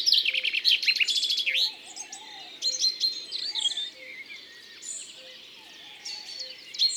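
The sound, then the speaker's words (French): Chaffinch song rings out with a bright, descending trill, followed by several shorter 'ping' and 'ru' calls from other chaffinches, clear against a soft outdoor background. “On entend des cris d'autres pinsons.”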